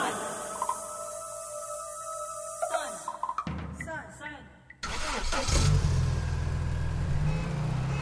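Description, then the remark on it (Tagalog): After a short tonal jingle and some chirpy sounds, a car engine roars to life and keeps revving loudly, a heavy low rumble filling the last few seconds. “Sikat ako sa syudad tulad ng mga kotse na bububo ng 30% ng aking mga alagad.”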